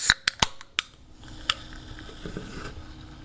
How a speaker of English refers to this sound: So before we continue, I have some potato chips and some soda, as usual. So what I'm first going to do is I'm going to open this can of soda.